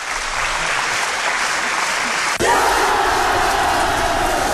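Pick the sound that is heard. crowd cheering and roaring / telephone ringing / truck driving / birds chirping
crowd cheering and roaring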